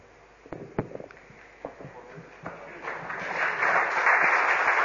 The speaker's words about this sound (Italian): Ci voleva l'applauso.